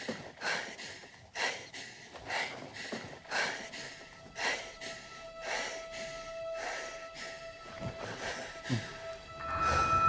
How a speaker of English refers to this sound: Heavy breathing. Okay, now she's slowing her breathing, getting in touch with her feelings.